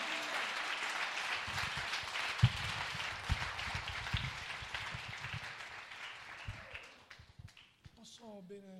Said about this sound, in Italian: Se tu lo credi, dagli un applauso forte alla parola di Dio.